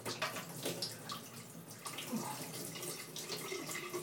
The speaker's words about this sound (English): I'm just going to empty the water tray in the dryer now. It might not be much in, but I'll empty it out quickly.